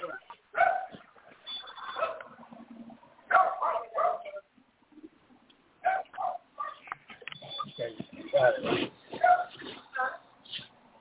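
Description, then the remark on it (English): Small dogs yapping in rapid, excited bursts, heard through a thin, tinny phone line from a caller's unmuted phone, with a few pauses between flurries and muffled voices mixed in underneath. “The puppies, the dogs, yapping, yapping, yapping.”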